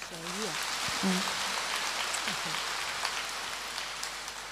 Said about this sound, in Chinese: 鼓掌。